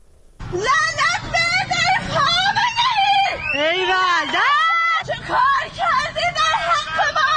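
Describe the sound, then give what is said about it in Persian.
A woman shouts loudly and continuously on a pedestrian bridge over a highway in Tehran, Iran, on the morning of 24 Aban 1398 (November 2019), her voice rising and wavering into anguished, wailing cries, with a low background rumble like traffic beneath. “صبح 24 آبان 1398 و فریادهای این زن روی یک پل عابر پیاده در بزرگراهی در تهران و مردمی که خود را از همه جا بی خبر می دیدند و ناگهان شنیدند که قیمت بنزین چند برابر شده است.”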